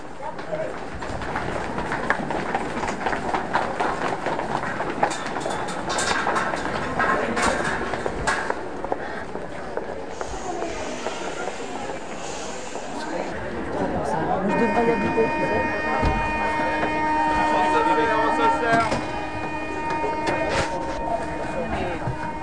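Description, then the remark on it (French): A steady rumble of a moving metro train with people chatting over it; partway through, a high motor whine rises and holds as the ride continues. “Là, tu es en train de finir de te maquiller dans le métro, c'est ça ?”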